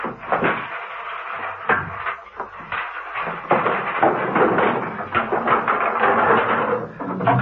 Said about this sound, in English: A young man was searching frantically through the hi-fi equipment, turning out long playing records from their racks, tipping tapes onto the floor, becoming more frantic as the minutes sped by.